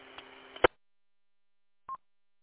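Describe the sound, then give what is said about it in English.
A burst of radio static cuts off with a sharp click, then after a pause a single short electronic keypad tone beeps from the radio, clear, with no talking. “Well, you know, some of these radios and that, they got a thing in there for, you know, when you do your tones and stuff like that, or you just don't have that on it.”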